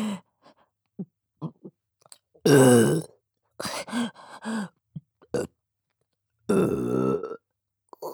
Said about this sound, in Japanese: こんなにゲップしたらまた我慢できなくなるかも。